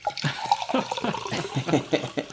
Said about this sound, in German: Ich mach mir, hört man auch gleich, roten Spritzer.